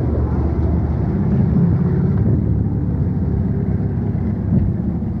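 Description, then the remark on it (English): A bus rolls past with a heavy, low engine rumble that stays loud and steady throughout, swelling slightly a couple of times, with no voices over it. “The bus is passing.”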